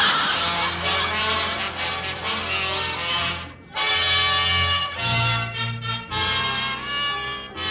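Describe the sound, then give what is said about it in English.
A loud, squeaky rocking chair creaks almost continuously with harsh, honk-like squeals, broken by one brief pause partway through. No one speaks. “Of course, I do have a squeaky rocker and Minerva.”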